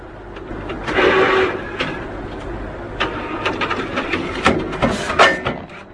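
An ATM whirs and clicks as it prints a receipt and dispenses cash during a cash withdrawal, a steady mechanical hum punctuated by sharp ratcheting clicks and feed noises, fairly loud, with no voices.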